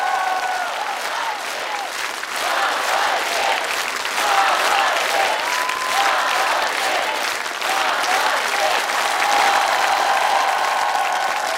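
Loud, sustained applause from an enthusiastic audience on the Russian TV show "Ты супер" for a semifinalist, a dense wash of clapping that swells slightly partway through and carries on steadily, with faint cheering or voices mixed in.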